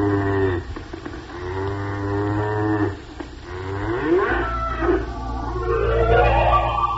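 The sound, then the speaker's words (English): A cow moos in long, low, drawn-out calls, several in a row, with rising and falling pitch over a steady low drone. No one speaks. “Maybe the business of milking the cow.”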